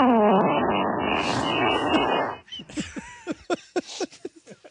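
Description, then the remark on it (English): A loud, raspy fart audio clip sent in by a listener blares for about two seconds in one sustained buzzy blast, then cuts off abruptly as voices start talking and reacting in short bursts. “How many people have sent farts since we started 66 Boner?”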